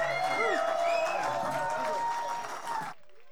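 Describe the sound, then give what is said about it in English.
An audience claps and cheers steadily for about three seconds for musicians after a singing and playing performance, with scattered whoops and shouting voices over dense applause, before the noise cuts off abruptly. “Y'all going to have to make a little more noise than that now.”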